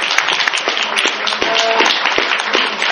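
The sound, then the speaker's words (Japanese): Steady audience applause fills the whole stretch, a dense wash of many hands clapping at once, fairly loud, with no talking over it. “皆さん拍手が本当に高いです。”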